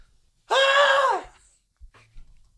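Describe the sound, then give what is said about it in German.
A short, loud mock scream from one person acting out being beheaded with an axe, a strained, shrill cry lasting under a second that drops off at the end, followed by quiet with faint rustling. “Peinlicher Schrei wäre das.”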